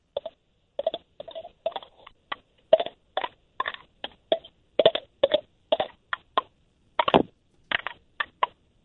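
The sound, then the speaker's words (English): A fingernail clicks against real teeth, with the first three fingers cupped against the thumb, tapping out the 1812 Overture as a quick series of sharp, hollow ticks whose pitch shifts from note to note, in an uneven melodic rhythm with no talking. “So you're just clicking your teeth with your fingernail?”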